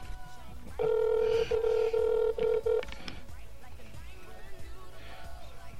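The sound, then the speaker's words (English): An outgoing phone call's ringing tone after a button is pushed to place the call: a steady electronic beep broken into several short pulses over about two seconds, loud, followed by quieter background noise. “The ringing means it's working.”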